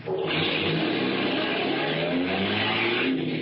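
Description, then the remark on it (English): A car, driven fast close to midnight, pulls hard at speed, its steady roar rising in pitch as it accelerates, with a constant rush of road and wind noise throughout and no voices. “I drove fast. The speed and power of the car gave me a feeling of great exhilaration.”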